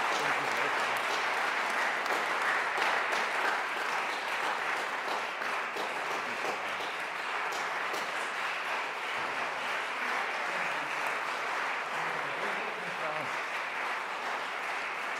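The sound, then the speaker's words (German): Steady, sustained applause from an audience for a woman who taught religious education classes, a dense wash of clapping that holds at an even loudness for about fifteen seconds without a break. “Deshalb vor deinem großen Applaus zuerst mal einen dicken Applaus für dich,”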